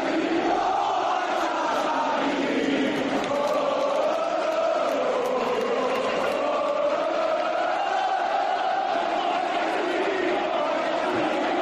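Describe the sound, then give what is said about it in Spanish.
A large crowd of Valencia supporters outside the stadium after a 0-3 loss to Girona shouts insults and jeers such as "no vais a salir" in a steady, unbroken roar, many voices overlapping into loud, rising and falling angry cries for the whole stretch. “Gritos de no vais a salir, no vais a salir, de qué equipo sois, esa camiseta no la merecéis, insultos, provocaciones de uno y de otro bando.”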